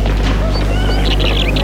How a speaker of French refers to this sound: Enfin, la voiture s'arrête devant une grande propriété entourée de hauts murs. Le chauffeur sort de voiture. Et ouvre le portail.